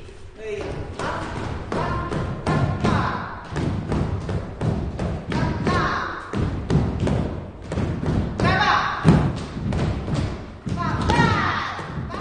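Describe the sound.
Repeated heavy thuds of feet stamping on a floor in quick rhythmic bursts, a group of dancers in a music theatre rehearsing Russian folk "klucze" steps together, with some voices calling the steps among the stamps.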